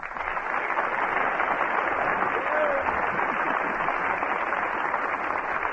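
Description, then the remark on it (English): Sustained studio audience applause as Fred Allen is presented in person, a dense, steady wash of many hands clapping at an even loudness throughout, with no voices rising above it. “That's the second largest industry in the country, raising applause cards.”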